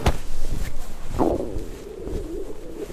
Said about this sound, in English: And when I get confused, I get hungry. See? My stomach is even growling. Here, I'll let you listen closer.